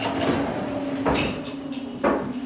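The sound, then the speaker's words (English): A heavy metal cell door of a full-sized prison cell replica at an exhibit in New Haven, Connecticut, rumbles and slides along its track, with a steady mechanical hum and sharp clanks near the middle and end as it shuts on a 10-by-12-foot gray cell. Fairly loud, no talking. “The door slides closed behind me as I walk into a 10 feet by 12 feet gray cell.”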